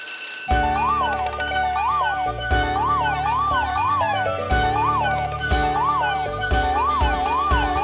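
A fire truck siren in a children's song wails in repeated rising and falling sweeps, mixed into bouncy music with a steady bass beat. It stays loud throughout, with no one talking.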